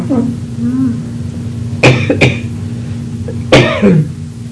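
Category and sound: human body sound, coughing and throat clearing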